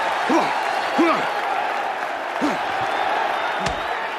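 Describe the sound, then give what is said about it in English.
A boxing crowd cheers in a steady, dense roar as Balboa drives Dixon into the ropes with a series of shots, with several individual shouts rising and falling above it and a single sharp smack near the end. “And the crowd goes for certain.”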